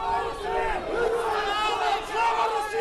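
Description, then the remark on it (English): A crowd of demonstrators in a square, proponents and critics of a return to Russian rule unfurling Russian or Ukrainian flags, shouts in unison, many raised voices blending into a loud, continuous roar with rhythmic swells of chanting throughout. “On a recent Sunday, some of the more vocal proponents and critics of a return to Russian rule came well within shouting distance of each other.”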